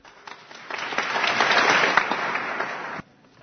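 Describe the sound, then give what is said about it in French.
An audience breaks into applause for the priests of the Church of Aix and Arles, many hands clapping in a dense, steady wash that swells over a couple of seconds and then stops abruptly. “Et j'aime bien, je vous invite à les applaudir.”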